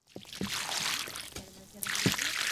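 Volunteers in Alamos pour water steadily onto newly planted agaves, nearly 400 of them, a hissing splash with a few soft thumps and sloshes as the flow shifts, growing slightly louder toward the end.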